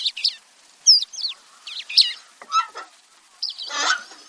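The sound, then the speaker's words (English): Calls of a pair of crested larks under 10 feet away, the male displaying and dancing around: several short bursts of clear, sliding whistles and buzzy trills separated by brief pauses, ending in a fuller, rolling phrase. No voices. “While a pair of crested larks were not even 10 feet from me, the male displaying and dancing around.”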